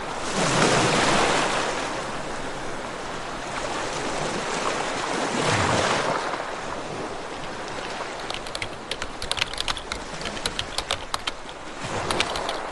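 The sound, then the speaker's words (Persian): Calm waves of the murky green Caspian Sea wash in with two slow, soft surges of broad hiss, followed by a steady gentle wash with sharp, irregular clicks and ticks scattered over it. No one speaks. “خزر نازلال و سبز اما آرام است.”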